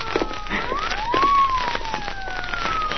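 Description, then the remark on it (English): A police car siren, with Faraday in the police car, wails in a slow rising and falling sweep, fairly loud and steady, over a crackly, noisy background. “Police car.”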